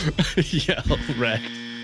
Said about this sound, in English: it's the buzzer.